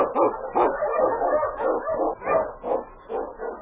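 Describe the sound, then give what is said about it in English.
King, an Eskimo lead sled dog (a husky) from Challenge of the Yukon, barks excitedly in a quick, steady run of about seven loud barks with whiny edges, one after another with no pauses and no voices. “The Wonder Dog King, swiftest and strongest of Eskimo lead dogs, blazes the trail through storm and snow for Sergeant Preston as he meets the Challenge of the Yukon.”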